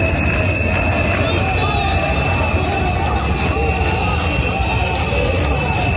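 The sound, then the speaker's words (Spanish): A large crowd in Valencia, Spain boos loudly and continuously at Spanish prime minister Pedro Sánchez as he gets out of his car at the government delegation building, a dense roar of many voices that holds steady for several seconds, with scattered shouts and whistles in the mix. “Así como escuchas, lo recibían con abucheos.”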